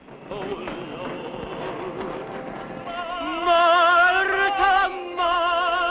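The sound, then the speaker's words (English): Quick, rhythmic footfalls of a man jogging up a wooden banistered staircase in the run-down Hillcrest Hotel, beneath a talking voice, then louder sustained tonal sounds swell in and bury the steps. “Mike jogs up a wooden banistered staircase.”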